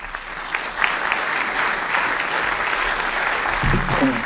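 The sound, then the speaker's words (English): An audience claps steadily for two debaters at the end of a debate, a dense, even wash of many hands sustained throughout with no pauses, fairly loud and bright, with a faint low murmur near the end. “A final round of applause for both of them for their excellent debate tonight.”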